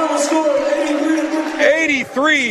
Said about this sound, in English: And the round of applause makes its way through Samford Gymnasium.